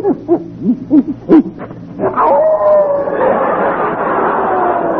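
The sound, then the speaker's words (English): A hound dog lets out a quick run of short, yelping barks, then breaks into a long, loud, sustained howl that wavers in pitch, with no one speaking. “you sure this hound ain't part wolf?”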